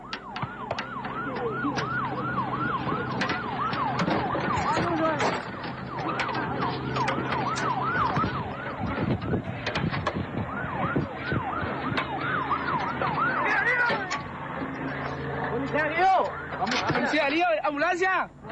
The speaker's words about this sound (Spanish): ¡Ambulancia! ¡Ambulancia!